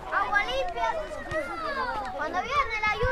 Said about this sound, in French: Devant nous, il y a des enfants qui jouent au foot dans un espèce de grand bassin rectangulaire bordé par un grillage.